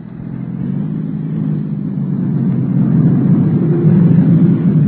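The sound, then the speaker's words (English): The engine of a black sedan roars steadily louder over about five seconds, a low rumbling drone building as the car approaches at speed, with no voices. “And there comes another car.”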